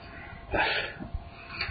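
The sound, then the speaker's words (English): A single muffled sneeze bursts out, short and fairly quiet, followed by low background murmur and faint background noise. “Gesundheit.”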